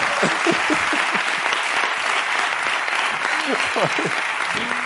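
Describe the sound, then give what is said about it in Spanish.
Sustained studio audience applause for Ricardo Castella at the end of a show, a dense, steady wash of many hands clapping at an even loudness, with faint bits of voices and cheering mixed underneath. “Un aplauso para Ricardo Castella.”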